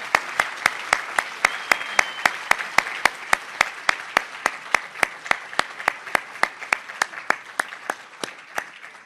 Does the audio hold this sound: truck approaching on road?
no